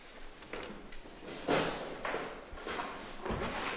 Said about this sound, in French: Attendez, je vais fermer la porte parce que ça fait du bruit le kick.